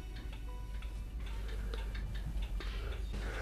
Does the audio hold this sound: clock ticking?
yes